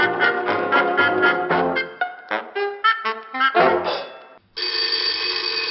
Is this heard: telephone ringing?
yes